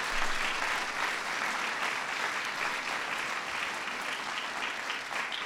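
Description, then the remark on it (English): Sustained audience applause for Joan Shigekawa, acting chairwoman of the National Endowment for the Arts, a steady dense patter of many hands clapping at an even, fairly loud level for several seconds with no one speaking over it. “Give Joan a big round of applause.”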